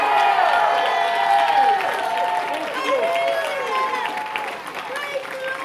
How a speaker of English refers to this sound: Stand on your feet and give the Lord the biggest hand clap that you've ever given anybody. Come on, give Jesus a big, big hand clap.